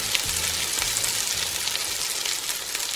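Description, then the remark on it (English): A frying pan sizzles steadily, with a dense hiss full of tiny pops and crackles. It holds an even, fairly loud level throughout, with no voices. “Well, it's time to put the Shark Tank Steve Gadlin into the frying pan.”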